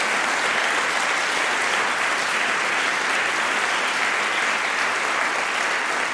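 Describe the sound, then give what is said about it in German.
A festival audience applauds steadily for several seconds, a dense, even wash of clapping hands at a consistent loud level with no talking over it. “Also für die bitte alle auch noch mal einen Applaus, dass wir so ein cooles Programm hatten an den letzten zwei Tagen.”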